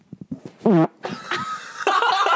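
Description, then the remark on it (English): A few small puffs lead into a short, buzzy fart right up against the microphone, followed by breathy, noisy rustling and muffled laughter. “Yes, dude, fart into the mic.”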